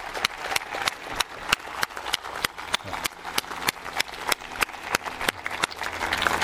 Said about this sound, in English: So you are going to interrupt heaven right now and get them rejoicing for these many people that have asked Jesus into their lives right now. Clap your hands, all you people, and shout unto God with the voice of triumph.